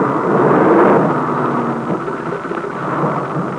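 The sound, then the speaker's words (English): A loud, steady roar of a plane making a three-point landing, a broad rumbling wash of engine noise with a faint low drone running through it and no voices. “So let's find out as much as we can, because the plane has just made a three-point landing.”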